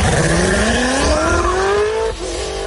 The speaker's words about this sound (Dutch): En dan zeg jij meteen, dat is natuurlijk de Koenigsegg Jesco Attack.